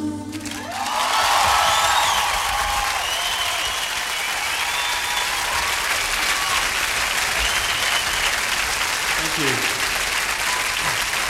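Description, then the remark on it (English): An audience bursts into sustained applause after a song, swelling within the first second, then holding at a steady, dense clatter of clapping, with faint cheering mixed in throughout. “Feel free to clap during the songs.”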